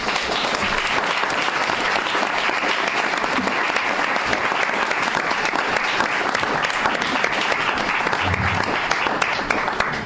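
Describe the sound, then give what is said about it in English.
Sustained audience applause for the members, a dense, steady wash of clapping hands that stays loud and even for the full ten seconds with no talking over it. “Big round of applause for all our members.”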